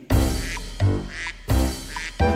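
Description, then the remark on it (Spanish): Four loud, nasal duck quacks repeat in a steady rhythm, each a short buzzy burst with brief gaps between them. “Ya viene el pato con cuac cuac cuac.”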